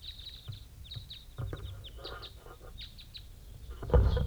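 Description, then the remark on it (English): Short, high chirping calls of captive crossbills held in cages, including a female in the bottom cage, repeat in an irregular series, sharp little notes over low rumbling background noise, ending in a louder burst of low thumping and rustle. “Some vocalizations of these captives.”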